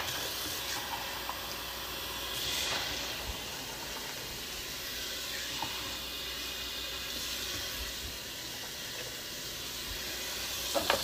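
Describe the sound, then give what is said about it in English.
A pot of water at a steady rolling boil, with a constant bubbling hiss and occasional small pops and crackles throughout. No one speaks. “I'm gonna put more water in here. As you can see, it is boiling.”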